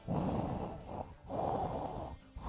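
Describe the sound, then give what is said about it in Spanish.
A person imitates the heavy, mechanical respirator breathing of Darth Vader: two long, raspy, hissing breaths, an inhale then an exhale, loud, followed by the start of another, with no talking. “Sí, sí, exactamente, que se metía casi las faldas de su madre porque cuando oía aquella respiración de Darth Vader”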